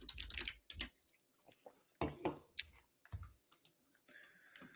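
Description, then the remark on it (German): Typing a Google search on a computer keyboard, asking whether pears float in water: clusters of sharp, irregular clicks and clacks with short pauses between bursts, fairly soft, with no voices. “Okay, jetzt google ich.”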